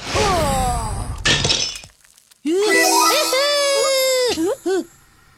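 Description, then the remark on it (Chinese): A brief crunching, crackling burst of a thin foil pot breaking, followed by a loud, sustained high-pitched wailing cry from a voice. “锡纸的锅怎么这么不经用呢？”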